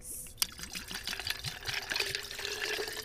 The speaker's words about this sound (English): Okay, just go on and pour the whole bottle in there.